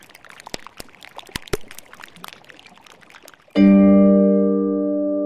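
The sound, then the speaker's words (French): Whisky trickles and pours over ice in a glass, with sharp crackles and clinks; then a loud, sustained ringing tone rises abruptly and slowly fades. “Le fait est que ce verre de whisky va désormais nous guider dans la recherche.”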